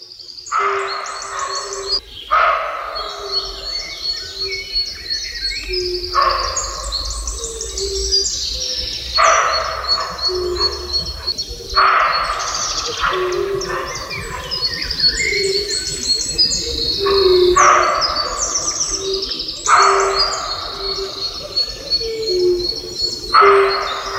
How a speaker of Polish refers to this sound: Już Państwo nawet rozwikłali, że w tle tego efektu dźwiękowego słychać kumaki.